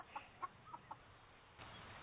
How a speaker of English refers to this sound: It's morning and the chickens are hungry. Let's head over to the hen house. If we're lucky, we might get some eggs.